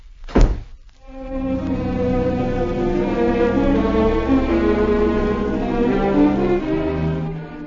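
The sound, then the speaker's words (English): A single heavy thunk of a door shutting, sharp and loud, followed almost at once by sustained tonal music that carries steadily to the end. “Shut the door.”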